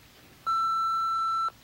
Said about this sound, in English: Do your thing when you hear the beep.